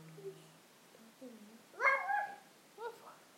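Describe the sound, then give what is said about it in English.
A dog named Meg whimpers softly with thin, whining tones, then gives a sharper yelping bark and one shorter bark a moment later, fairly quiet. “It's not Poppy, that dog is called Meg.”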